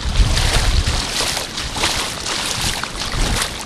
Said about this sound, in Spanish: El oleaje del mar, el ruido de las palmeras, el viento rozando nuestras caras.